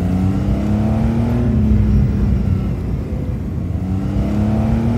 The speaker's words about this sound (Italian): Sento il rombo del suo Porsche Carrera che si avvia e parte.